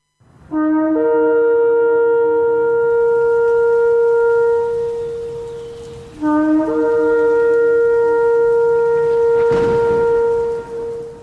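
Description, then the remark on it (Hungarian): A ceremonial horn blown in two long, loud, sustained blasts, each rising sharply at the start and holding a bright, steady tone for several seconds, with no voices, marking the Feast of Trumpets on Hungarian Mária Rádió. “Kürtzengés ünnepe.”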